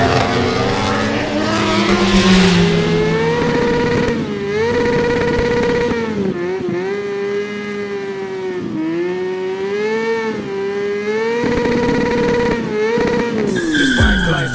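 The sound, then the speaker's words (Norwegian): A loud racing engine roars continuously as the vehicle accelerates around the track during a race, on the quickest lap of the race so far, its pitch climbing and dipping through repeated gear changes, with a brief squealing whine near the end and no voices. “Yep, he's putting the hammer down. That's the quickest lap of the race so far.”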